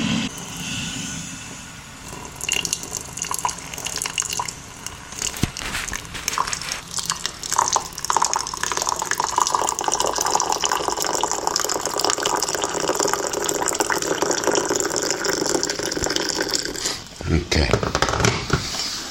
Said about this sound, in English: Special effort there to get sound out of water crashing on top of other water.